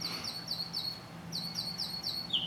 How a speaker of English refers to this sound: This bird is unbelievable.